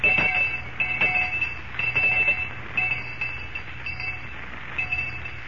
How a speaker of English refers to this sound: I'll ring the lunch bell.